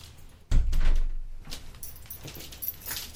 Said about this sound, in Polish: Zamknę drzwi, żeby nam nie dostało się.